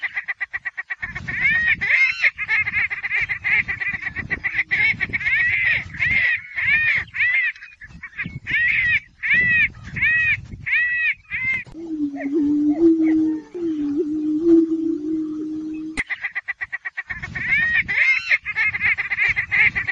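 A chorus of prairie chickens dancing on a lek, their booming grounds in southern Iowa: low, hollow booming moans overlapping with loud, rapid cackling and whooping calls from several birds, with a steady low hoot in the middle.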